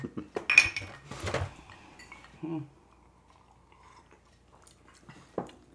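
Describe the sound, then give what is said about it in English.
Glasses of rye whiskey with ice clink together in a quick toast, a few bright taps, followed by quieter table clatter and a soft clink near the end, with faint voices in the background. “All right, everyone. Let's cheers it. And a new one. All right, cheers.”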